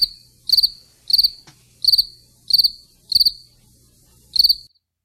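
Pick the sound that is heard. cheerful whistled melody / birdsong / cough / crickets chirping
crickets chirping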